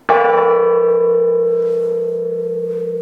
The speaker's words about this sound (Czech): Přecházíme napravo od presbytáře, tady visí veliký zvon. Můžete trošku cinknout, oče?